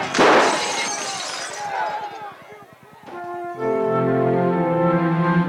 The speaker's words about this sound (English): A group of unknown men silently surrounded the school at night with clubs and iron bars. With deafening noise, they attacked, scarring the walls, bursting open the doors, and breaking 90 panes of glass.